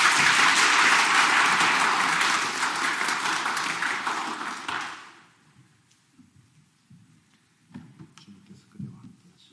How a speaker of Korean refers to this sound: 앞으로 나와주십시오. 환영의 박수 부탁드릴까요?